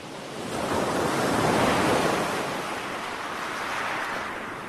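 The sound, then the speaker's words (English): Waves wash onto the shingle beach of Shale Bay on the Isle of Wight in a steady, broad roar that swells and slowly recedes, fairly loud, with no voices present. “To start this episode, I thought we would take a brief dip into the relaxing waves of Shale Bay on the Isle of Wight, a recording recently shared by the British Library Sound Archive team, to bring a little comfort to those unable to visit the coast”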